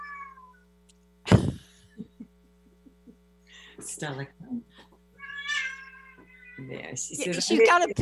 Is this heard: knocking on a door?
no